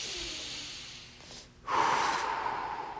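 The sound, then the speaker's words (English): A long, deep breath drawn in through the nose, followed after a brief pause by a fuller, rushing breath out through the mouth, fairly loud with no talking. “In through the nose and out through the mouth.”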